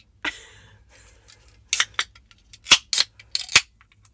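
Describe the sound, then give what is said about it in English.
A beer can, the second beer being opened, cracks open with a sharp pop and a brief fizzy hiss, followed by a string of loud, crisp clicking and crinkling snaps of the metal can. No one speaks. “The second cracking, the ceremonial cracking of the second beer.”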